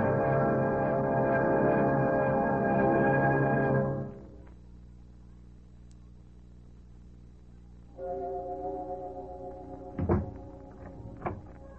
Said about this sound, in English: Closing door finishes a story.